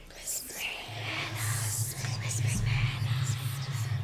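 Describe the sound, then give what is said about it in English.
Eerie, breathy whispers hiss and drift, echoing off the walls of a dimly lit room, layered over a low, steady droning hum that swells slightly louder toward the end. “The air is thick with an ominous presence, and eerie whispers echo off the walls.”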